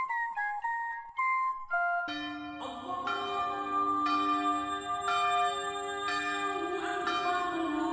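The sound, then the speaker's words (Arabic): Church bells ring out in a steady, overlapping peal, each strike roughly a second apart and leaving a long, shimmering hum, after a brief higher-pitched chiming melody at the start. “عندما تعانق أجراس الكنائس تكبيرات المساجد تنطلق نفحات الإيمان من كل مكان.”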